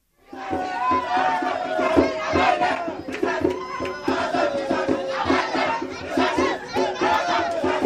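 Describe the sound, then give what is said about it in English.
A large crowd of asylum seekers, almost all from West Africa, rescued crossing the Mediterranean, shouts and chants together aboard the Ocean Viking rescue ship, loud and steady throughout, with a pulsing rhythm running under the massed singing and calls. “So this is a large group of rescuees.”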